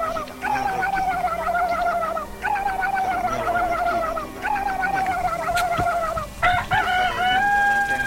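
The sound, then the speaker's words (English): A rooster crows loudly several times in a row, long warbling calls with short pauses between them, with some clucking from fowl in the background. “It sounds more like a chicken or something.”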